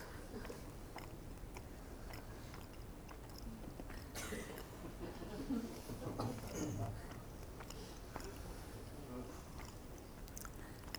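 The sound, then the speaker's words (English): Someone chews a bite of crunchy cookie, with a steady run of crisp crunches and moist smacking that lasts several seconds. “You take bite like that, and then chew it.”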